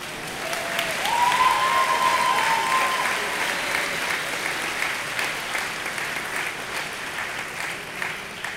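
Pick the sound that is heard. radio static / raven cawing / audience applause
audience applause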